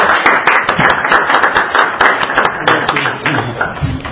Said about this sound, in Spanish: Un aplauso, por favor.